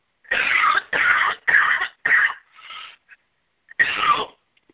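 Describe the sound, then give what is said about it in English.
Harsh coughing and throat clearing: four loud bursts in quick succession, a softer fifth, a brief pause, then one more strong cough. No one speaks. “Pardon just a second. I'm going to cough.”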